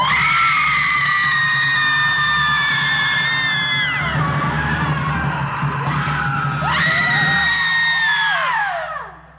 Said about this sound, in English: Is your chance to cathartically scream with us in 3, 2, 1.